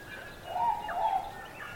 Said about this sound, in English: The dense forest and the tall mountains had no predators, and the birds had nothing to fear. So they sang.